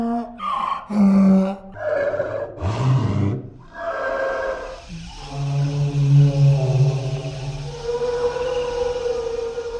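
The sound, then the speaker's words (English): A slowed, deep donkey bray, made by sound designers as the call of the long-necked brachiosaur dinosaur, turned into a long, mournful creature call, with rising and falling harmonic tones that swell and sustain like a drawn-out song, heard alone without talk. “To create their sound, the designers took hawing donkeys, and they slowed it down until it became a graceful song.”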